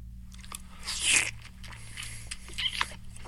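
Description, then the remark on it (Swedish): Wet, slurpy eating noises of a person who takes a bite and swallows with barely any chewing, two louder smacking bursts rising from quieter mouth sounds, over a low steady hum, with no talking. “Nej, det är när man äter och när man knappt tuggar.”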